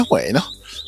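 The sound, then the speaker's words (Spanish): A small bird chirps faintly in the background with thin, high tweets, mostly buried beneath a man's voice as he speaks a couple of short words; the bird is where the speaker is standing. “Entonces se va a escuchar de fondo un pajarito”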